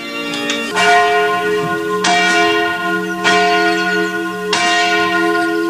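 The church bell of the Magnuskerk rings loudly with steady, evenly spaced strokes about a second apart, each ringing tone sustaining rich overtones into the next. No one speaks.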